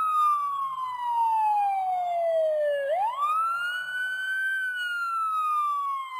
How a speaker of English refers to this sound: In the distance, they heard a siren.